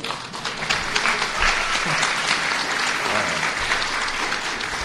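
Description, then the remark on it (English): The children of Van Beers Elementary clap and cheer loudly and steadily, a dense wash of applause with scattered shouts, holding at an even level for about five seconds. “You want to give him a cheer?”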